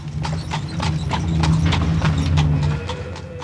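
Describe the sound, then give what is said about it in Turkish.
A horse-drawn cart rolls by, hooves clip-clopping in a steady, brisk rhythm over a continuous low rumble of wheels, the whole sound fairly loud and even throughout. “Şu giden arabada arabacı avaz avaz bağırdığı halde görünürlerde kimseler yok.”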